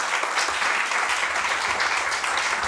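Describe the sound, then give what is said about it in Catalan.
Loud, sustained applause from a large crowd, a dense steady wash of many hands clapping at once with no pauses, no voices standing out above it, for Catalan Parliament member Eva Granados at a candidacy presentation. “Un fort aplaudiment a la nostra companya Eva Granados.”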